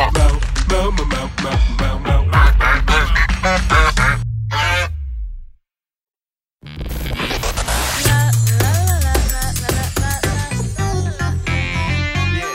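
Loud, dense goose honking from a whole flock, harsh overlapping calls in two long bursts separated by a couple of seconds of silence, continuous with no talking.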